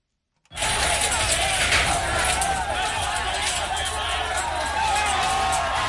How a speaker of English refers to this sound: The sound of a crowd of Central American migrants breaking apart a medical barricade at a border crossing with Mexico and Guatemala. The group of about 3,000 is said to have run into a wall of police in Mexico